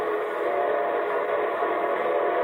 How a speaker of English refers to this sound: Say, that's the signal a locomotive engineer blows when his train is approaching railroad stations, junctions, and railroad crossings.